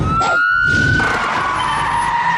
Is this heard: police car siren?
yes